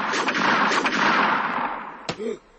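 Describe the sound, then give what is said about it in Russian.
Several sharp pistol shots, fired in all directions in a train station waiting room, go off in an irregular burst over a dense, hissing wash of noise, with a final loud shot followed by a brief tonal cry. “Курочкин выхватил из-за пазухи пистолет и принялся стрелять во все стороны.”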